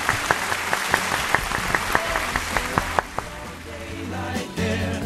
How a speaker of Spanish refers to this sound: Le damos el aplauso del día, pues sí, a John.